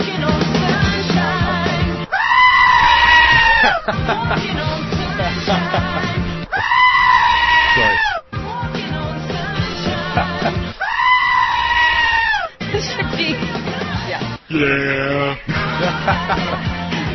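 Loud, harmonic goat screams burst out repeatedly over a steady music track, each wavering cry lasting a second or two and landing in rhythm with the song.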